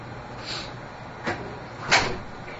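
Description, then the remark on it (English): A door swings shut with a soft thud, followed a moment later by a sharper latching clack, with faint background hiss. “Would that technically be okay to shut the door?”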